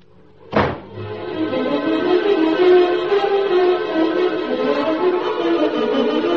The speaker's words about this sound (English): Then I walked right out and slammed the door.